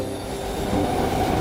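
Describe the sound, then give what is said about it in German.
A crowded subway train carrying commuters to work runs with a steady, loud rumble, thin metallic squeals riding over the roar of wheels on track for the whole stretch, with no voices. “Es ist vielleicht gleich Zeit für Sie, dass Sie aus dem Haus gehen und in die U-Bahn steigen.”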